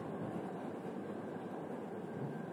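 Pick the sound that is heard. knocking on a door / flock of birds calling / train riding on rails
train riding on rails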